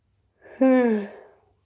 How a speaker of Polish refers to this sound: Przyznać się, kto ziewnął.